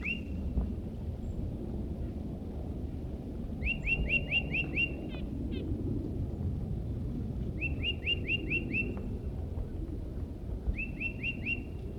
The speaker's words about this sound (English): That was the vocalizations of a tufted titmouse who's nearby.